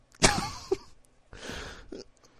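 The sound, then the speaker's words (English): Someone coughs in a harsh fit: several rough bursts over a couple of seconds, one drawn out and raspy, with short gaps between them and no talking. “Coughing.”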